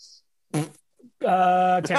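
Two loud fart noises with no talking: a short blurt, a brief pause, then a longer, buzzy, drawn-out one that ends in a final sputter.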